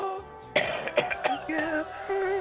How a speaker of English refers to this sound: That falsetto make you cough, though, if you don't do it right. Everybody can't do it, man.